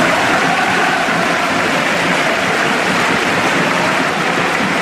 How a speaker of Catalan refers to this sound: Aquest és el moment de la substitució a la segona meitat amb l'ovació dels seguidors del Vissel Kobe